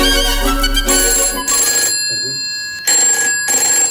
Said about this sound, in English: The Phil phone direct line is ringing. The phone is ringing.